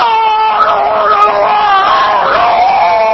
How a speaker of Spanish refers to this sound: Porque si usted va al dentista, por ejemplo, sí, y se siente en la sala de espera y ya oye los gritos del que está dentro.